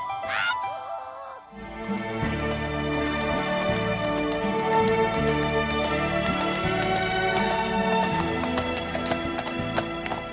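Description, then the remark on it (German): Horse hooves clip-clop in a steady, trotting rhythm, fairly loud, riding along over a bright, bouncy musical backing after a short opening burst of sound; the horse is Rasende Renate on the Kakadu programme of Deutschlandradio Kultur. “Howdy, ich bin Cowboy Talking Tim, mein Pferd heißt Rasende Renate und mich begleitet mein Indianerfreund Vorlaute Feder.”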